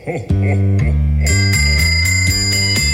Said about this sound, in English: Hear that sound? You know what that means. Every year about this time, the Salvation Army is taking it to the streets, ringing the bell and asking you to come fill up the red kettle.